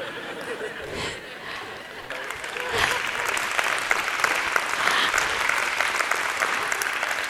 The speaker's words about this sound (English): But if we were doing it for you, if we were shouting and screaming and clapping for you, see, how does God feel? I think he likes it.